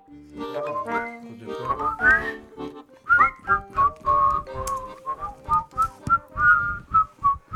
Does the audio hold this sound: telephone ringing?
no